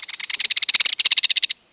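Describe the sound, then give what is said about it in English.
A belted kingfisher's rattle call: a loud, dry burst of rapid clicking notes, around twenty-five in about a second and a half, harsh and evenly spaced, then an abrupt stop. “Experienced birders would say rattle.”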